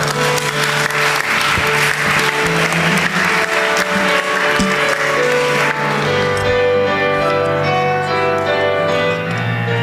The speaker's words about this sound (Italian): Un applauso.